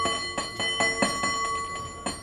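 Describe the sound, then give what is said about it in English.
A San Francisco cable car bell rung by a champion gripman bell ringer in a quick, syncopated rhythm, about ten bright clanging strikes over two seconds, fairly loud with a sustained metallic ring between hits. “I'm a three-time bell ringing champ in San Francisco on the cable car.”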